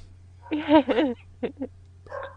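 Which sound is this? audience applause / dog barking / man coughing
dog barking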